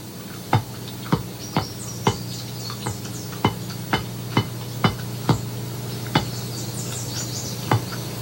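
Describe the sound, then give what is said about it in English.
Footsteps of a woman in a movie pacing back and forth on a metal grate, a steady series of sharp, ringing clanks at a brisk walking pace, sounding over a low constant hum with no voices. “But here's the thing that I had written down here is whenever Wade's girlfriend walks, it sounds like she's running on a metal grate.”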